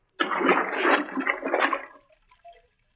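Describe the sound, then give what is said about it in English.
A sudden, loud splash of someone diving into water to swim underneath it, followed by a second or two of rushing, churning water that fades into a few faint drips and trickles. No one speaks. “But I'm going to have to swim under the water in case someone is watching from above.”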